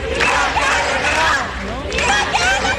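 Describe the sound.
A crowd of some hundreds of mostly young people in the barrio París-Londres area shouts and chants together at a rally, a dense, loud wall of voices that swells in waves with brief dips, continuous throughout; they shout at each appearance on television and at the projections.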